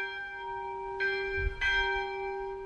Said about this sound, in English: Actually, the very first thing is a bell for about 20 or 30 seconds, a tolling bell. We have bells from different monasteries and things all over the world that we use at different times. And that's just to sort of remind you of being called to pray.